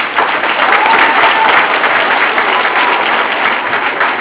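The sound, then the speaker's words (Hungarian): Steady, loud applause from an audience at a carnival (farsang) show as costumed people march onto the stage, a dense wash of many hands clapping at once that holds an even level throughout without a break. “Mindannyiakat arra kérem, hogy amikor ide vonulnak a színpadra, ne kínéljenek se Isten, se ember, dajogjanak, tapsoljanak, erről szól a farsang.”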